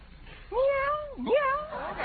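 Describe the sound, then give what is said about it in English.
A human voice imitates a cat, giving two drawn-out, wavering meows in quick succession, fairly loud, the second rising and falling sharply. “Meow, meow. Oh, that darn cat. It always works, it always.”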